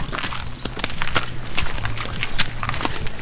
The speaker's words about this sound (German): Mit bedächtigen, vorsichtigen Schritten setzt sich das Pferd in Bewegung. Du sitzt fest im Sattel, spürst den kräftigen, muskulösen, warmen Körper unter dir.